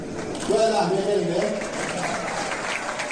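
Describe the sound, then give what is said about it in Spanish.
Steady applause from a crowd of 500 McLaren workers at a celebration keeps a dense, even wash of clapping going, while team boss Andreas Seidel, acting as speaker, calls out loudly over the top for most of the few seconds. “Ahí veis, es Andreas Seidel, es el speaker, es Andreas Seidel, que efectivamente es un estupendo jefe de equipo, no es especialista en hacer de speaker, pero, y ahora empieza a decir Superlando, y acaba con aplausos, ahora lo vais a escuchar.”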